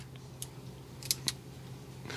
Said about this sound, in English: What is he doing? What is he doing with those toys? I think he's adjusting the chain tension on his bike.